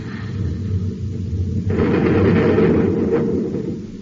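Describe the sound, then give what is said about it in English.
A low, steady rumble gives way to a sudden roaring blast from an atom cannon shot fired at an approaching robot ship, a heavy explosion that thunders for about two seconds before easing off. No one speaks. “Have standby to fire both atom cannons.”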